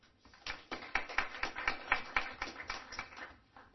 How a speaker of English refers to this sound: A round of applause